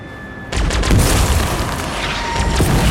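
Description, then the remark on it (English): After a brief quiet hum, military vehicles leading a school bus down a city street explode in a sudden loud blast, followed by a sustained roaring rumble with several more crackling bursts layered through it. No one speaks. “The vehicles leading the bus explode.”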